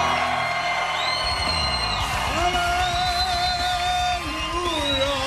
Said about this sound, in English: Oh, man, this crowd is on fire. Unbelievable! This is fantastic. This is one of the best times we've ever had at Keenan's Irish Pub, the official opening of the Jersey Shore.